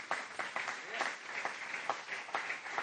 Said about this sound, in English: Give him a good clap offering, would you?